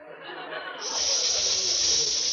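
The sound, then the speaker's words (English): A steady, airy hiss like gas escaping from a leak, thought to come from a coffee table that sprang a leak, starting softer and swelling brighter and louder after a moment, then holding constant with no talking over it. “It's just that I think the coffee table sprung a leak or something.”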